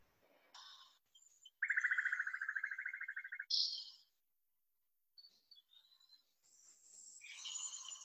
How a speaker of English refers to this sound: It sounds like I'm outside my camper hearing some little birds and crickets.